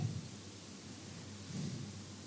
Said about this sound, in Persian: بعد مثلا یه نم بارون هم تو حرم بزنید. زدید داره بارون میاد تو حرمتون؟